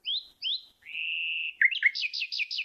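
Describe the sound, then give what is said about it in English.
Clear male nightingale song: two quick upward-sweeping whistles, a long steady whistled note, then a fast run of repeated trilled notes, with no voices. “And that's the sound that among all the sounds that male nightingales make, this is the one the females like the most.”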